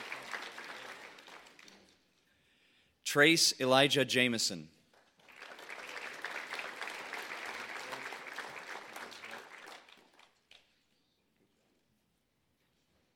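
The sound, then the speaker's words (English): A crowd cheers with loud, high whoops and shouts as eighth graders' names are read out, followed by several seconds of steady, dense clapping that fades out. A voice speaks briefly at the start. “You can cheer. It's okay.”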